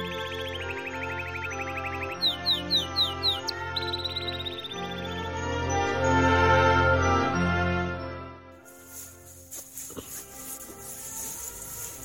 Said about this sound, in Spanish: Uy, mira, por ahí he oído una paloma. Pero no sé dónde está.